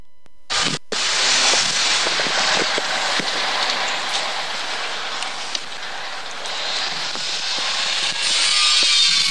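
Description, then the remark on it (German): A loud, harsh angle grinder cuts continuously for about nine seconds, a steady high-pitched screeching whine with gritty rasping texture, with no voices. “Joker liegt in deiner kreischenden Flex und deinem großen gelben Lastwagen.”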